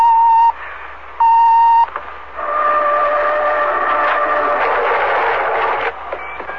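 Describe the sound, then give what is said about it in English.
Two loud, steady electronic beeps from pressing a red door button to the right of a steel door, each about half a second long, followed by a longer sustained buzzing tone lasting several seconds. No one speaks. “Press that red button to the right of the steel door.”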